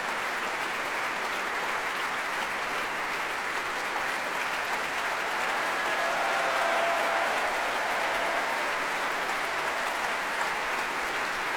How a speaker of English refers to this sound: Conductor Kirill Karabits is waving his baton in the air and clapping as conductors do on his podium, and the orchestra applauding Sanuk Kim as well and coming to their feet.